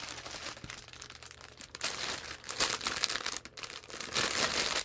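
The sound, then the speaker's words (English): Packaging crinkles and crunches as a package is unboxed, with irregular bursts of crisp plastic rustling that grow louder and denser partway through, no voices over it. “I have an unboxing.”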